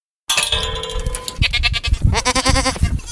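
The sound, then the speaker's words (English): Several goats bleat in a paddock, their wavering, nasal cries overlapping in quick succession against a busy outdoor background with rustling and shuffling. “I love my dairy goats, you know, because I milk them.”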